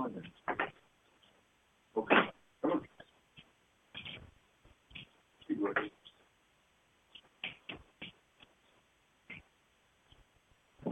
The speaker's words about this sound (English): Hold on, another dog is scratching on the door to come out. Be right back.